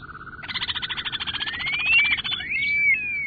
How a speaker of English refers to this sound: And they have kind of this long neck, long legs, and kind of a small head for their body. And they have this long wolf whistle that they give when they fly and land.